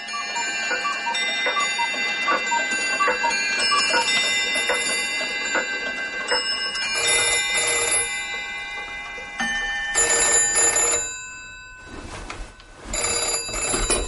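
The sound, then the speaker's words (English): A dense, overlapping din of ringing clock bells, chimes, cuckoos, ticking and buzzers, all sounding at once without pause, loud, with no voices. “Suddenly, the crowd was silent, and there appeared a tiny man, stepping daintily from the doorway of his house, to be greeted by a cacophony of clock noise, bells, chimes, cuckoos, and buzzers.”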